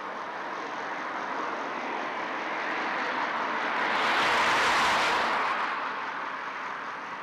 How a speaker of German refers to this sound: Reger Verkehr, der Grenzbau in Sicht